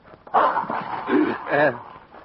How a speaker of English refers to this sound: Uh-oh. Oh, he looks mean. And big. What kind of dog is that? It's a mastiff.